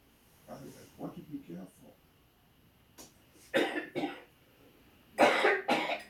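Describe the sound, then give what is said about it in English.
A short stretch of low murmured voice gives way to a series of harsh coughs, coming in two pairs of loud, raspy bursts with brief pauses between them. “I'm gonna be coughing.”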